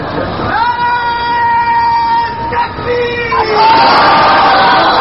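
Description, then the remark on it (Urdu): A large crowd at a religious gathering chants slogans in unison, voices rising into long sustained calls that swell louder toward the end, loud with a dense, echoing roar beneath. “تو میں ایک، آپ تھوڑی سی توجہ فرمائیں نعرے سے ہٹ کر، میں ایک بات آپ کے ذہن میں بٹھانا چاہتا ہوں.”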